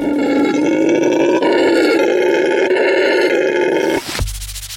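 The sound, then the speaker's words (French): A howler monkey's call: a loud, deep, continuous roaring howl sustained for about four seconds, raw, then cut off abruptly into a quiet low hum. “Et le cri d'un singe hurleur, eh bien ça ressemble à ça.”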